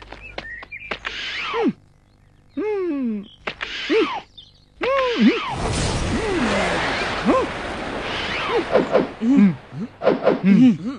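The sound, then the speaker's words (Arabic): A bat swishes through the air in a loud, broad rush lasting a second or two during a children's ball team practice, surrounded by excited children's voices and short shouts before and after. “هيا تحركوا ولا تقفوا خلفي، لوحوا بالمضرب.”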